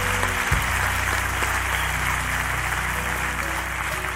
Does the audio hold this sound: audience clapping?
yes